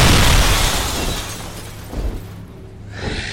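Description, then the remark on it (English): A loud, crashing break of stone, glass and wood, starting with a heavy burst that trails off into rumbling debris, with a couple of smaller crunches following. No voices. “The sound of stone, glass, and wood breaking sundered the moment, and before Wesley could turn to see the source of the noise”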